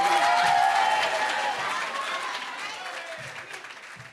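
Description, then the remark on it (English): A crowd applauds loudly and steadily as a performer is welcomed to the stage, a dense wash of clapping with some cheering mixed in, gradually fading over about four seconds. “All right, so coming to the stage, everyone, please give a warm round of applause for”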